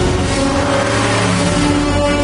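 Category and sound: vehicle, car engine revving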